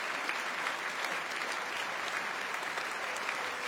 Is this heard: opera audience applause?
yes